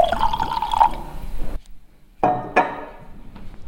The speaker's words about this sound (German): Ja, Herr Probst hat mir ein Schlückchen eingeschenkt. Ich schwenke das ein bisschen im Glas und stecke jetzt meine dicke Nase rein.